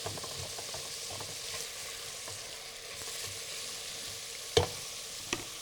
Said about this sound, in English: All right, we're going to add some chopped onion. See, we timed that just right, didn't we? The proper way to cut an onion, I'll show you that as we cook these onions until they're translucent.